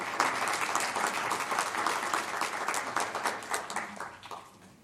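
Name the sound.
audience applause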